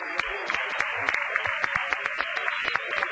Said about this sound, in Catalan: Doncs en nom de tot el personal que hi ha per aquí, moltes gràcies i m'agradaria molt un aplaudiment molt fort per l'autor del regalet.